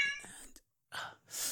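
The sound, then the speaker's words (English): A fussy cat gives one short, high, whiny meow, then after a brief silence come two soft breathy, hissing bursts. “Oh, my God, you fussy cat.”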